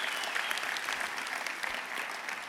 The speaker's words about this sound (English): If you love your worship team, come on. I know we've clapped a lot, but give them a hand. I love them.